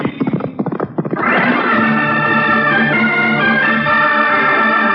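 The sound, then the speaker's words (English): A palomino horse named Curie gallops with quick, rhythmic hoofbeats for about a second, then a loud, sustained, high whinny rings out and holds steady to the end. No one speaks. “Manitoua, from all of us, and from Curie, my great Palomino, and me.”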